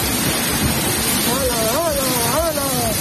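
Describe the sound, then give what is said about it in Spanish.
A torrential downpour in the southwest of the Community of Madrid, Spain, roars steadily with rushing rainwater filling the whole scene, loud and constant; partway through, a person's voice rises faintly above the din. “De la tromba de agua que provocó el caos en varios municipios del suroeste de la Comunidad de Madrid, sobre todo en Ciempozuelos, donde hubo muchos locales y garajes anegados, además de caídas de ramas y muros.”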